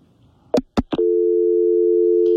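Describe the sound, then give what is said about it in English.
A few sharp clicks and thumps on a phone line give way to a steady, mid-pitched electronic tone that holds on continuously, like a busy signal after a call drops. “sounds like we lost Corey.”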